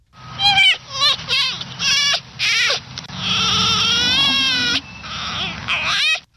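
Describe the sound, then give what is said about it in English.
Prairie dog calls: a run of shrill, bleating yelps, several short ones followed by a long wavering cry and a few more sharp calls, loud and with no talking. “Those are dogs. It's close. It's actually, there was a song about it. …”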